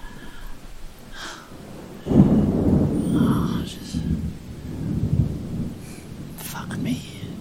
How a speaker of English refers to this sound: Maybe with the sound of the storm, nobody will hear me scream when I come.